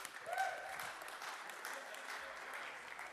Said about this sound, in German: Yeah, könnt ihr vorkommen. Applaus für die zwei.